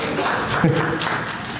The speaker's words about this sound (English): Smart people are clapping.